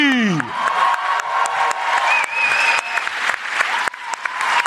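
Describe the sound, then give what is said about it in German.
An audience breaks into sustained, loud applause for an Irish crooner being introduced, with dense clapping and a few cheers and whistles, a steady wash of noise lasting several seconds. “Und jetzt euer Applaus für unseren irischen Schmusebaden”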